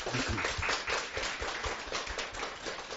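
A steady burst of applause from a crowd, many hands clapping in a dense, continuous wash with no voices breaking through, holding at an even moderate level for the few seconds.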